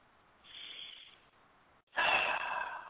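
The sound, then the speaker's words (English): A slow, audible inhale, a brief pause, then a stronger, louder exhale rushing out, with no talking. “You refresh by taking a breath. You breathe in and you breathe out.”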